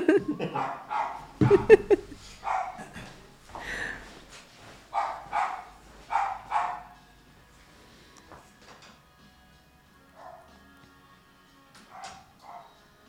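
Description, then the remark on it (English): A puppy barks repeatedly in quick, high-pitched bursts, with short pauses between yaps, then the barking thins out into a few fainter yelps near the end. “okay, we need to close the door. that dog. The puppy is back. Naughty dog.”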